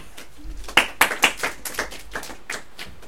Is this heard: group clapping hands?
yes